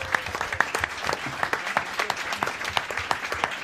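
A small audience claps steadily for a few seconds, dense overlapping handclaps with a fairly even rhythm, moderately loud and close, with no talking over it.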